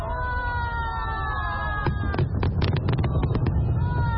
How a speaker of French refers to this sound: Des feux d'artifice tirés au stade national de Pékin lors du coup d'envoi de ces 24e Jeux d'hiver. Comme il y a 14 ans, le spectacle a été conçu par le réalisateur chinois Zhang Yimou.